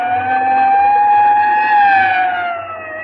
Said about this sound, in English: Yeah, you better pull over and let that ambulance get past before it runs us down.